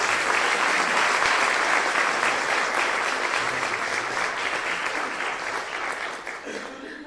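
A crowd claps steadily one morning to welcome a speaker, in a dense, sustained burst of applause that stays loud for several seconds, then gradually thins and fades toward the end.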